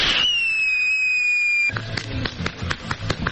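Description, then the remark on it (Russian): A high whistling tone slides slowly downward, then a rapid string of sharp explosive bangs and crackles follows, loud, with no voices, during military training of children by separatist instructors. “как инструкторы обучают детей стрельбе, рукопашному бою, навыкам разведки, учат не бояться взрывов.”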